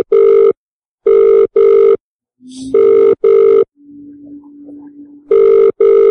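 An outgoing phone call's ringback tone sounds loud, repeating in paired electronic trills separated by pauses, with a faint low hum in one of the gaps.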